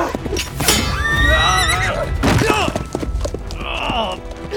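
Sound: horse neighing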